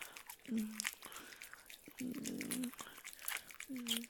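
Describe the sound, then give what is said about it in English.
Wet, smacking kisses on the ears, right up against the microphone, repeating irregularly with soft crackles in between, and a few brief low hums from a voice mixed in. “To give my little puppy some warm, tender little ear kisses from mommy's warm, wet, loving lips.”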